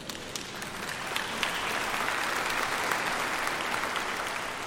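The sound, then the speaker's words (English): An audience at a Christian sermon applauds steadily, a dense wash of many hands clapping that swells slightly after the first second and holds at a fairly loud, even level with no voices. “Now, if you're not a sinner, you didn't have to clap.”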